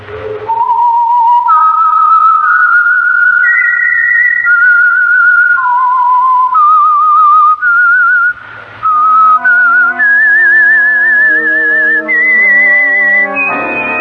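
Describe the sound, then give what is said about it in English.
The whistled signature theme of The Whistler, the Signal Oil Program for Sunday evening listening: a lone, clear whistled melody rises and falls in slow, wavering notes, then an orchestra swells in underneath as the eerie whistled theme continues to its end. “And for Sunday evening listening pleasure, the signal to listen for is this whistle that identifies the Signal Oil Program, The Whistler.”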